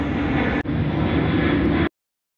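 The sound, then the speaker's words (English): A Southwest Airlines passenger jet airliner roars overhead at 10:22 a.m. over Ontario, flying over the Ontario Town Square Apartments, a loud, steady, full-bodied engine rumble with a momentary dip partway through before it cuts off abruptly. No voices are heard. “And that is Southwest Airlines.”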